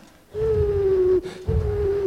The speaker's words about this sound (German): Ein Uhu.